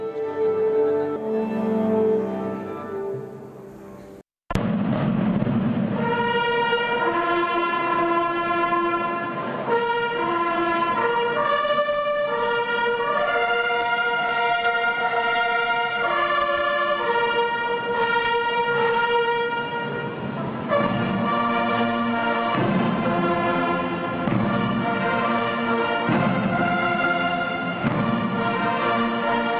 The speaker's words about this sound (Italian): Suono di Siena, nella città turrita che diede i natali alla patrona d'Italia, squilli di tromba e rulli di tamburo echeggiano per strade di pietra e cortili. Oggi, 2 luglio 2010, si gioca il palio dell'Assunta